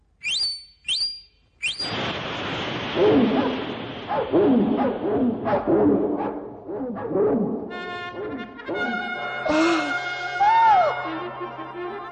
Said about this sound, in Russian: И собаки бросились на судей и на весь королевский совет. Того за ноги схватили, того за нос, да и подбросили кверху.